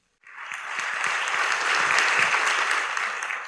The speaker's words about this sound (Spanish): Pido entonces un gran aplauso, por favor